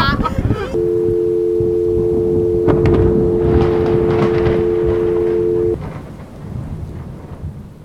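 A thunderstorm: a sharp crack of thunder breaks through steady rain and deep rumbling, with a sustained low hum underneath, before the storm fades to softer rainfall at the end.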